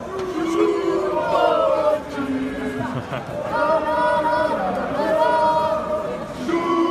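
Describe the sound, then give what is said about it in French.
A crowd of football supporters outside the stadium, on their way to the Porte d'Auteuil metro entrance, chants together in loud, sustained unison, voices rising and falling in a steady sung rhythm with overlapping shouts. “Écoutez, un internaute a filmé des supporters en train de se rendre à la bouche de métro Porte d'Auteuil.”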